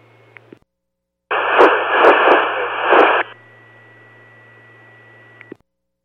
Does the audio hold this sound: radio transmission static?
yes